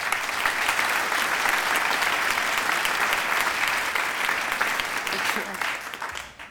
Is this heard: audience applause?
yes